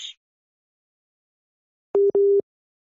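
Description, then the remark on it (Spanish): A phone connection with Aleppo, Syria, cuts off with a brief click, followed after a pause by a busy tone: two loud, steady mid-pitched beeps, the second slightly longer, with no talking. “Pues se cortó la comunicación.”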